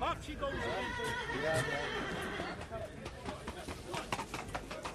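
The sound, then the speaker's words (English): A trotting horse whinnies loudly for a couple of seconds at a fairground, its wavering neigh rising and falling, with muffled voices and faint hoof clatter in the busy outdoor background. “This side of the ground is out in the old trotters, all trotting horses.”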